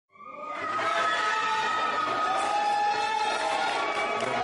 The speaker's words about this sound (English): Cheers and applause broke out in the courtroom after Egypt's highest appeals court threw out a previous ruling against former President Hosni Mubarak and his two sons on charges of fraud and embezzlement.